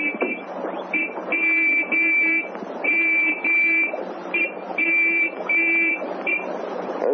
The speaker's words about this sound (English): The sergeant took his gold whistle from his pocket and spelled out an answer.